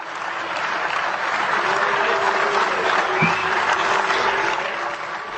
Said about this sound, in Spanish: Klaus, conocido por su posición fuertemente crítica con la Unión, cuestionó duramente las instituciones europeas, levantando ampollas y provocando tanto abucheos como aplausos.